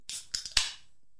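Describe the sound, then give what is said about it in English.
A can of Monster energy drink being cracked open: a few sharp metallic clicks, then a louder pop with a brief bright fizz that quickly fades. No one speaks. “We should have a noise for opening a can of Monster.”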